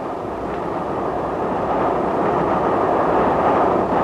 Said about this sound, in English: The hour shall pass like the wind, even as our famous train rushes through the night. She goes well, too.